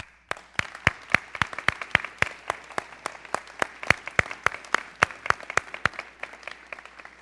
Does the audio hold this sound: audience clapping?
yes